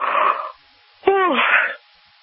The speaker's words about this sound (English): Oh my gosh, I'm just yawning.